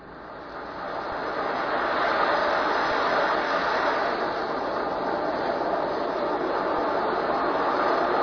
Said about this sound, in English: But through the Amazon Echo Dot, I can have ocean sounds, thunderstorm sounds, rain sounds played. It can often be very soothing and help you get to sleep. There's even a fan sounds skill that you can have. Alexa, play ocean sounds.